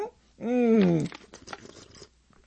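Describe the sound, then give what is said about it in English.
A plastic water bottle crinkles in a quick burst of sharp, irregular crackles lasting about a second, just after a short, wordless voiced sound. “And I have my water. I love it. I love the crinkling.”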